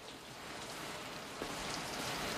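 shower water running

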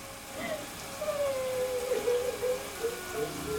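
shower water running

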